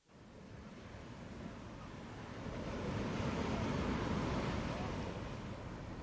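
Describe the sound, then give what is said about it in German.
Steady rushing surf of sea waves on the rocky coast of Rügen, Germany, building to a louder swell midway before easing slightly, with a broad hiss of wind and water and no voices. “Ich stehe hier auf den Felsen von Rügen und sehe aufs Meer hinaus.”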